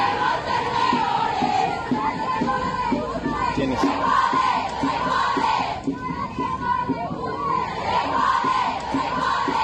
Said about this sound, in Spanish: Antes cerraron por espacio de 15 minutos ambos sentidos en Avenida de los Insurgentes, lo que causó molestias a los automovilistas, a quienes gritaban: podemos ser peores, peores, y al que no le guste, se jode, se jode.